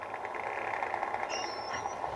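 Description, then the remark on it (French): A striped dolphin whistle: one thin, high-pitched tone lasting under a second, gliding slightly upward, then fading. It rides over a constant, dense background rush. “Là, c'est un sifflement, mais la fréquence est assez haute, contrairement aux clics que vous avez entendus avant.”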